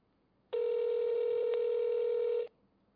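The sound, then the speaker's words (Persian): A steady electronic telephone tone sounds for about two seconds as a number is called again after the other side hung up, loud, with a tiny hitch midway, then cuts off cleanly; no voices accompany it. “دوباره تماس گرفتیم. قطع کرد. دوباره تماس میگیریم.”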